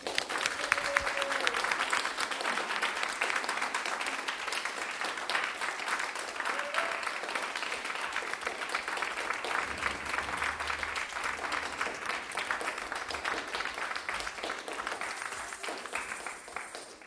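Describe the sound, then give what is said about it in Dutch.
Sustained applause from an audience honoring a volunteer's 20 years of volunteering at Hebron, a dense steady wash of many hands clapping for about seventeen seconds at even loudness, with a few faint voices and cheers mixed in. “Dat vraagt wel, nou, gewoon om een enorm applaus.”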